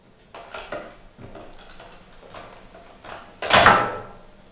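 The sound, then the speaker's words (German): An old cellar door is forced open with a series of scraping, rattling knocks and creaks, ending in a louder grinding burst as it gives way, with no one speaking. “Können Sie sich trotzdem mal versuchen, die Tür zu öffnen?”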